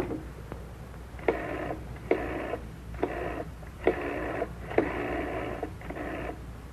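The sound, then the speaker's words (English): A telephone being dialed to call London Airport: six electronic touch-tone beeps, each about half a second long, at an uneven pace over a quiet background hiss. No one speaks. “Now the phone.”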